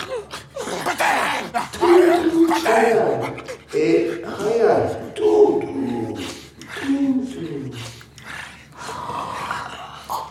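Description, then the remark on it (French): Twins imitate dogs barking, giving repeated rough, throaty yaps in uneven bursts mixed with chuckling and panting, fairly loud throughout. “Oui, à aboyer.”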